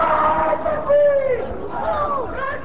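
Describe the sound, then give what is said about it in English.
A large, boisterous crowd of about 6,000 young Pakistani men on a Friday shouts and chants together, voices overlapping in a loud, continuous roar with rising and falling yells throughout. “On this Friday, I'm wading into a boisterous crowd of 6,000 young Pakistani men whose sentiments cannot be more different.”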